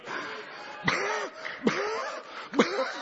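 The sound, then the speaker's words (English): Three forceful coughs about a second apart, each a sharp burst trailing into a raspy, voiced tail, with a breathy, noisy sound between them. “I think I'll spend this next 10 seconds coughing.”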